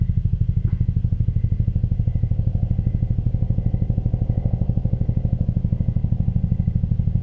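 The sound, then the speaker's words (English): A helicopter flying overhead, its rotor beating out a fast, steady, low-pitched chopping throb that stays loud and even for the whole stretch, with no voices over it. “Just let there be the sound of the helicopter.”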